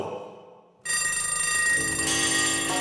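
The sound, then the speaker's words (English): Bells ring loudly and continuously in a bright, rapid clangor that bursts in after a brief quiet moment and keeps going to the end, with no one talking. “and you can already hear the bells, but it is time, but not quite time.”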